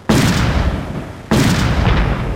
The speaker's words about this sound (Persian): صدای انفجارهای پیهم و تیراندازی به گونه پراگنده شدت گرفت.